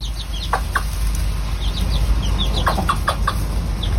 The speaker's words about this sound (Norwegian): Du, før vi kakler videre, så skal vi høre på litt sånn ekte kakling her, Andreas.